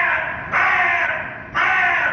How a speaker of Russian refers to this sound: Ворона.